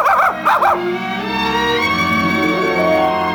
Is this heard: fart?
no